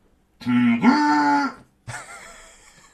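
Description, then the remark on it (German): A voice honks through an ordinary green watering can, making two loud, droning, moo-like bursts: a long one that jumps up in pitch midway, then after a short pause a shorter, fainter one. “das hier, liebe Pillen-Army, ist eine ganz stinkordinäre grüne Gießkanne. Achtung, damit kann man geile Soundeffekte machen.”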